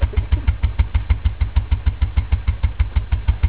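A stationary engine, the power unit for a transmission machine, runs steadily at idle, its low, heavy thumping firing beats repeating about five times a second with an even chugging rhythm. No one speaks.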